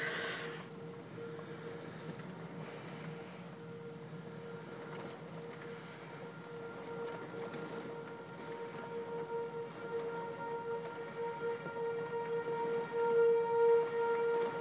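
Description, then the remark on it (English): Sirens wail in a long, steady tone, swelling louder toward the end, over a constant rushing wash of noise from a major thunderstorm at 4:15 in the morning. No one speaks. “There goes the sirens.”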